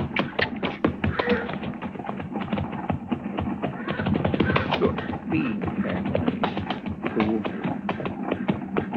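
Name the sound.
horse hooves clip-clopping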